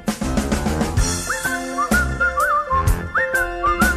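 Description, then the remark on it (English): A bright whistled melody rides over a full band arrangement, the whistle gliding and bending through short phrases above steady drums and accompaniment in the opening theme song of It's Gary Shandling Show, played over the credits. “We're almost to the part of where I start to whistle.”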